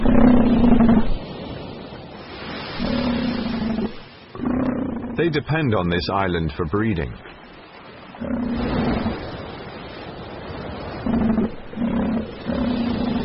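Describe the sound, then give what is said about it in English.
Elephant seals bellow and roar on a beach on Macquarie Island in the Pacific in August, in deep, guttural bursts that repeat throughout, loud, with a man's narrating voice layered over the calls. “In August, after months at sea, elephant seals arrive.”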